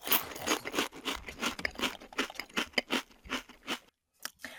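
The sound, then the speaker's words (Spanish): Someone eats a sandwich at a picnic with rapid, repeated crunchy chewing, a steady rhythm of moist bites and munches that pauses briefly near the end before a couple more chews. “¡Apúrense a comer su sándwich!”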